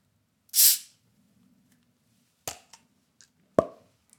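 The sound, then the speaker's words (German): A beer bottle is opened with a brief, soft hiss of escaping gas, followed a couple of seconds later by a few sharp glassy clicks and knocks, with no voices. “Ich nenne es jetzt Geröff. Von Gesöff. Von Geräusch. Ach so. Öffnungsgeräusch.”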